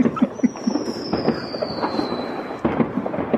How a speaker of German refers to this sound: Ja, und Böller. Achtung, vielleicht knallt. Aber das war ein ziemlich armseliger Böller.